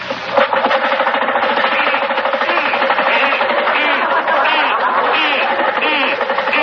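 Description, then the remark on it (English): An engine kicks on and keeps running with a loud, rough, steady clatter, holding constant throughout with little change in level. “Yeah, start it up again.”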